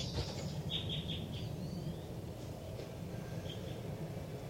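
Thin, high-pitched chirps of baby birds in a nest, recorded with the recorder pointed right at the nest: a quick run of three followed later by a lone call, faint against a steady, loud low rumble.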